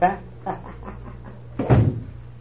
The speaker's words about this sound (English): And the same night, as Larry quietly opened the door of his and Mary's bedroom in their Rosehaven home, he listened for a second, and then...